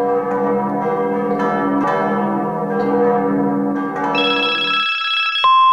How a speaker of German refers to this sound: Hey, das muss was mit den Kirchenglocken zu tun haben, vielleicht läuten hier die Kirchenglocken dieses Lied. Ich riskiere es und schicke Robert die Aufnahme von dem Glockengeläute hier.